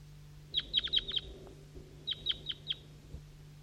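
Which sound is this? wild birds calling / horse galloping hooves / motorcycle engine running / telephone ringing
wild birds calling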